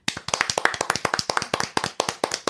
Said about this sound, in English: No, you get the big clap. The big clap. Instead of the big slap.